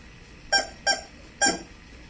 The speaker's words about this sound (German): Hupen. Soll ich mal festhalten? Pass auf, ich halte fest und du drückst.